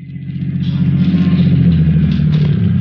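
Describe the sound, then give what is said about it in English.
A lieutenant's car engine rumbles low and steady at a used car dealer's lot, swelling in at the start and then idling along with a deep, throbbing hum as the car rolls to a halt. No voices. “Following one line of their investigation, Lieutenant Leo Kelly hurried to the lot of a used car dealer, Happy Harry, in response to a call from Sergeant Joseph Maurer, who was waiting as the lieutenant's car pulled to a stop.”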